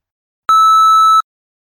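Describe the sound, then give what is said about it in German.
A single steady electronic beep tone, loud and clean, lasting under a second with an abrupt start and stop, surrounded by silence, in a recording check for the TestDaF oral exam, signalling the test-taker to state their full name and participant number. “Bitte nennen Sie uns nach dem Piepton Ihren vollständigen Namen und Ihre Teilnehmernummer.”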